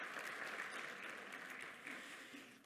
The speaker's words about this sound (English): Applause for our Lord Jesus. Wonderful.